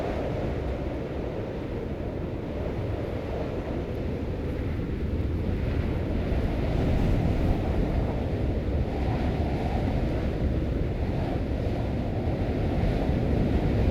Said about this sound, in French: Le vent dans la forêt, c'est là que pour moi il prend toute sa forme allégorique, notamment dans les monts d'Arrée, où je vais très souvent travailler à l'intérieur de la Bretagne.